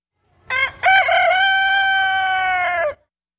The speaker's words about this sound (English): Today's sound of the day is a little bit different. It comes from this weekend's King County Fair in Enumclaw. That, of course, was a rooster. It was crowing at the 4-H Animal Husbandry Competition.